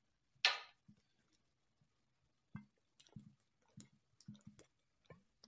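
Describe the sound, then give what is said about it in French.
Someone takes a small sip of water: a short breathy slurp at the start, then a quiet pause and a run of soft, wet swallowing clicks. No talking. “On va passer à la 5 et je vais me prendre une petite gorgée d'eau.”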